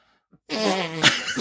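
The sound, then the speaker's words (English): A wet, buzzing raspberry (zerbert) blown against the skin of an arm, one sustained flapping burst lasting about a second, fairly loud, like a fart noise. “So will you go ahead and make a Zerbit on your arm for us?”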